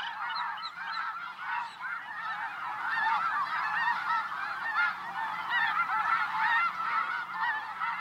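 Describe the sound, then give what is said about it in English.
A huge flock of snow geese calls nonstop, flying over a car and landing in a field, hundreds of overlapping high honks and yelps forming a dense, steady clamor, with a soft rushing of wings beneath the din. “Like riding through an automated car wash, you're enveloped in swishing, calling, flapping feathers, a blizzard of snow geese.”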